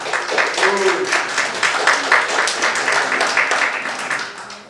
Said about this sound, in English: If you could, please refrain from applause or booing or whatever you just, don't do that in this room, please.